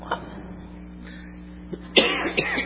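A person with a lingering cough after a cold coughs: a short cough near the start, then a louder burst of two or three harsh coughs toward the end over a steady low hum.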